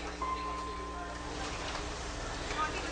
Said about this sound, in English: Back to just a field recording. Just a light rain.